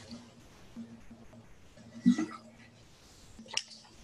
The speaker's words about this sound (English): Drink of water here.